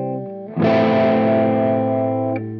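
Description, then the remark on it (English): A sustained electric guitar note starts clean, then abruptly turns thick and gritty with harmonic distortion that adds overtones to the original sound for about two seconds, before dropping back to a cleaner tone. Loud, no talking. “One of the most common is called harmonic distortion, which adds overtones to the original sound.”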